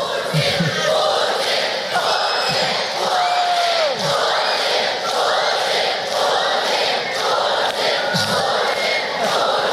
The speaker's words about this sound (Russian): В сообщениях российских телеканалов подчеркивалось, что появление Путина было якобы неожиданностью для присутствовавших в зале детей, встречавших его визгом и скандированием «Путин, Путин».